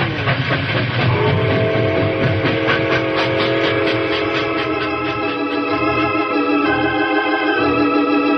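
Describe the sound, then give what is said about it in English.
A locomotive pulls away, rumbling and clattering along the tracks down a hill, loud for the whole stretch, with steady grinding mechanical noise and high whistling tones riding over the heavy low rumble. “A locomotive can outrun a horse any day.”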